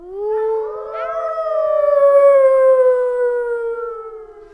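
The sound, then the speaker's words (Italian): A single long wolf howl rises, then holds steady and slowly falls away over several seconds. It sounds loud, with no talking or other sounds around it. “Una giornata terribile, tutta colpa del lupo.”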